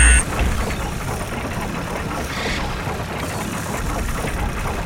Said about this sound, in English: So let's start the boat up here. I'm going to go left.